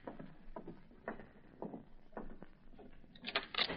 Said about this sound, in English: I'll open the door, Mary.